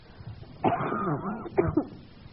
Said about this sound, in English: I'm going to cough first.